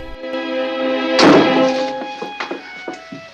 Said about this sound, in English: Romano opens the door into the corridor and smirks.